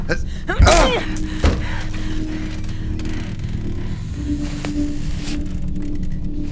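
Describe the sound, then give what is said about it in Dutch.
A door is rammed open with two heavy shoulder blows about a second apart, the first with a splintering crash, followed by a steady low hum and faint movement. “Op drie rammen we de deur open, oké?”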